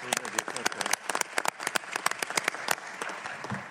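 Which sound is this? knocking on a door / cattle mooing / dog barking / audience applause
audience applause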